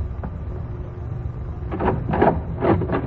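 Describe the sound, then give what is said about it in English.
A door is opened with a few scraping, rattling bursts over a steady low rumble, moderately loud, with no voices. “Go open the door, Doc.”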